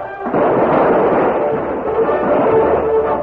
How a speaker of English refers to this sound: Devastating gunfire broke out.